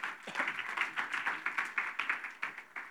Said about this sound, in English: Can we give these guys a big round of applause?